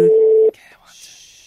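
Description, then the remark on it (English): A loud, steady telephone ringing tone of an overseas call sounds for about half a second, then cuts to fainter, higher electronic tones on the line, heard alone with no one talking. “It's calling overseas.”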